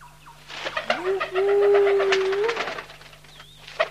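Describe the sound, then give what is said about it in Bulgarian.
A single drawn-out dove coo, a smooth low hum that swells up and holds steady for over a second before trailing off, fairly loud with faint rustling noise around it. “Тук съм, дете мое. Гу-гу!”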